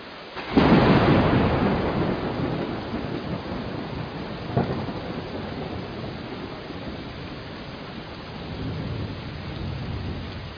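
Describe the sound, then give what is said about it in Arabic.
Steady heavy rain hisses throughout while a loud roll of thunder booms in near the start and slowly rumbles away, followed by a sharper crack midway; no voices. “ففي هذه الأيام من الله على المسلمين، على عباده عموما وعلى مخلوقاته التي تحتاج إلى المطر، فأنزل هذا المطر وعممه عليكم، فاشكروا الله واحمدوه على هذه النعمة.”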